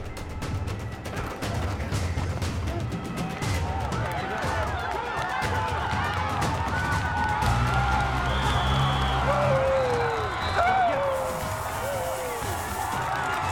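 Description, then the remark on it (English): A large crowd of friends cheers steadily from stadium bleachers at a night football game between Maryland and Texas teams, a dense roar of many voices with scattered whoops and shouts rising above it, staying loud throughout. “And friends cheer from the bleachers.”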